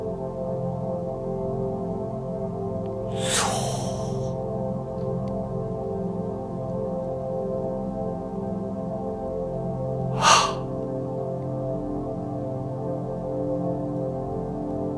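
Two deep, airy breaths, several seconds apart, rise briefly over a steady, low humming drone that continues throughout, with no talking.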